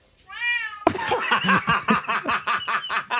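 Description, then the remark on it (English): A cat meowing along to a song gives a single drawn-out, wavering meow, then is cut off by a burst of loud, rhythmic sounds like laughter that pulse steadily to the end. “Get that cat on a talent show.”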